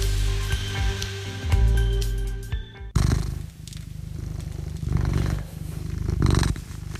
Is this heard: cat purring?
yes